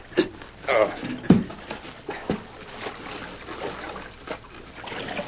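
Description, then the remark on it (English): Creek water splashes and trickles steadily, broken by a few sharper splashes and knocks as a heavy object is lifted into the creek to wash rock for gold, with muffled voices now and then underneath. “Help me lift this thing into the creek.”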